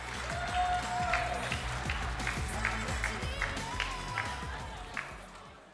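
A crowd at a prize ceremony applauds steadily for about six seconds as two teams from the Games category, Onion Milk and Pyra Squad, are invited up; dense overlapping claps at an even, fairly loud level, with a thin whistle-like tone cutting through briefly twice.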